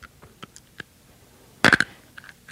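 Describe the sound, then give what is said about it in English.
Crisp crunching of something hard being chewed in the dark, with a few scattered soft crackles before a loud cluster of sharp crunches, then more bites near the end. No talking. “now, we have to get to where we can see each other crunching”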